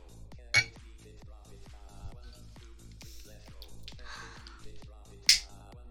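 Glasses clink together in a toast, with two bright, sharp chimes several seconds apart standing out over a steady murmur of background voices.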